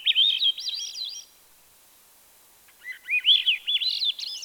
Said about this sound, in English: Swainson's thrush is the robin's smaller, inconspicuously colored cousin, olive brown with a streaked, buff-colored breast. The clear, flute-like songs of Swainson's thrush are heard more often than these birds are seen.